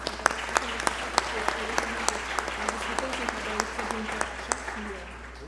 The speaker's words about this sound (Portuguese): Salva de palmas a todos.